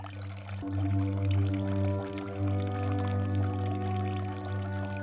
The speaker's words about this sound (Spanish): En algún punto de la sala, el sonido del agua fluyendo de una fuente pequeña crea un murmullo constante y apacible que se funde con una música suave que flota en el aire